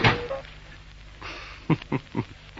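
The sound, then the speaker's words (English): A door is pushed shut, with a few short knocking thuds and a latch-like clack in quick succession, over a faint hiss with no one talking. “Righto, cuts the door.”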